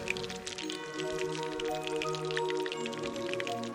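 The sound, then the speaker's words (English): Pancake batter made of eggs, butter, flour and milk is poured into a hot pan with a steady crackling sizzle that holds at an even level for several seconds, with fine popping bursts scattered throughout. “The pan is hot. Let's pour some batter in it.”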